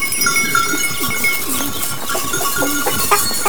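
Several goats bleat in overlapping, wavering cries over a bustle of movement, with bells clinking steadily in the background as the herd leaves the stable and goes outside.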